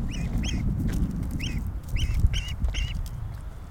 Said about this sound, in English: I really don't know what this duck's doing. I really like that duck. Can you record that duck chirping?